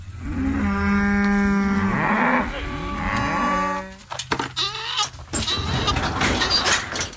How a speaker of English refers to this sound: She has 100 head of beef cattle. And that's what you're hearing now.